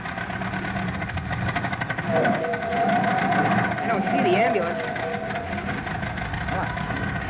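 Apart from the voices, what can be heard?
old car engine running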